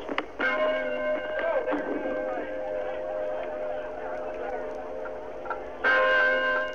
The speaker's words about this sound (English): Sailing ships staged a stately parade up and down the Hudson River, while President Ford rang the ship's bell on the USS Forrestal.